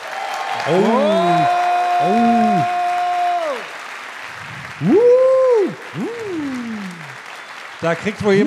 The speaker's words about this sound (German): Und jetzt noch euer Applaus für Marc, der auf seinem dritten Date ist. Euer Applaus für Marc!